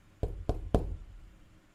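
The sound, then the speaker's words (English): Three solid knocks on a door in a quick, evenly spaced sequence, resonant, with a low thud to each one and a brief decay afterward. “Let me try knocking again.”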